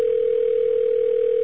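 A steady telephone dial tone hums continuously at an even, moderate volume, unbroken for the whole stretch before cutting off abruptly at the end. No voices.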